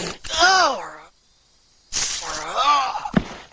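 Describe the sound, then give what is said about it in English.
Two raspy, breathy hisses separated by a short pause, sounding like a human voice imitating the hiss of a coral snake with red markings. The rough, drawn-out sounds are fairly loud. “this is what we call a coral snake”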